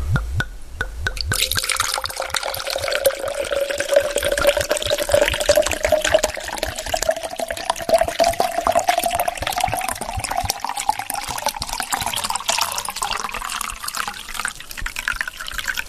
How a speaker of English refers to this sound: So, you know, with a neat drink, all you got to do is pour it into a glass, which I'm going to do right now.